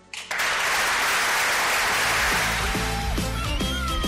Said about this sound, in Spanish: Bueno, pues ahí estaba esa ovación de sus compañeros